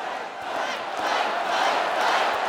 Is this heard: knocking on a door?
no